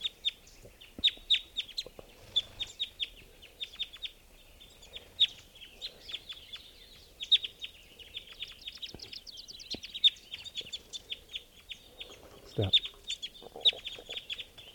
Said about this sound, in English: Now the birds are really hitting the nets. Big flock sort of drove over to the net stump. So recording, four birds are in the net, all adults. And there's still a red male here. Who is tooping. Here's another bird.